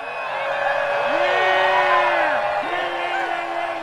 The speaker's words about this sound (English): At midday, that's where hundreds joined hands in a vast circle to meditate and pray for peace. After a while, the crowd erupted into cheers and celebration.